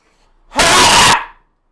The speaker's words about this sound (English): That was my angry scream. You don't want to hear me go full on anger.